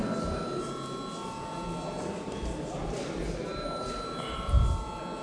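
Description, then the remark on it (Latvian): A voting call bell in the Latvian parliament, the Saeima, rings continuously for several seconds before deputies vote on declaring a bill urgent, a steady electric tone with faint murmuring and shuffling beneath and a low thump near the end. “Lūdzu zvanu.”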